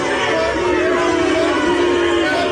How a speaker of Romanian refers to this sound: Noul premier britanic Boris Johnson a fost huiduit pentru prima dată în noua sa calitate astăzi când a sosit la biroul premierului scoțian Nicola Sturgeon la Edinburgh.